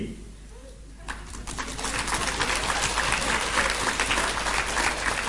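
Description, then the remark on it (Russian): Applause from an audience starts after a second, building quickly into dense, steady clapping that stays loud to the end, with a low murmur of voices underneath. “Ну-ка все вместе уши развести, лучше по-хорошему хлопайте в ладоши вы.”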